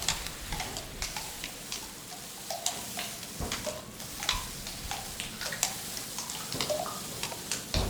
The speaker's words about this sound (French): La pluie est là, dit le rhinocéros.